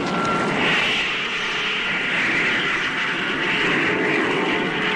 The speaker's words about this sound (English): All motors fired simultaneously.